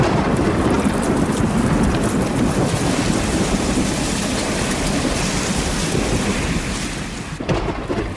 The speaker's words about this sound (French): Et c'est sous le chêne que nous allons nous abriter de l'orage pour commencer ce club de la Terre au carré.